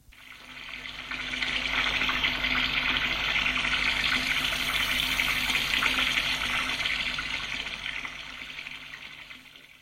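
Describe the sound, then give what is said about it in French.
A tap runs steadily for about ten seconds while a man shaves with a razor blade, a continuous hiss of water that swells in over the first second or two and eases off slightly at the end. No voices. “Et commence à se raser.”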